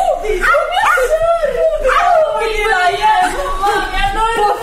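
A small dog yips and whines excitedly in quick, high-pitched bursts while people chatter over it without pause.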